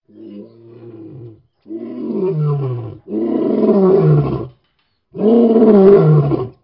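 A lion roars four times in deep, rumbling bursts, the first softer and the later ones louder and fuller, with short silent gaps between them and no talking.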